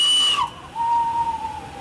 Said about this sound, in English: Roger smiles as Ryan sounds the whistle. A heap of coal in the tender and a steady stream of smoke from the chimney. Then the blue Flying Scotsman plaque on the locomotive's black nose.